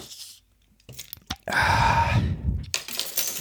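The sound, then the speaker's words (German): A bottle of Gentle Ginger drink being opened: a few sharp clicks and metallic rattles, then a loud burst of fizzing hiss lasting about a second before fading into softer rustling. “Das heißt, sollen wir Ginger schon mal eine aufmachen?”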